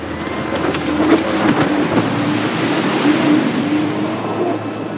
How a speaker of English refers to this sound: A water scooter, also known as a jet ski, is one of my favorite vehicles to drive when I'm vacationing on the beach.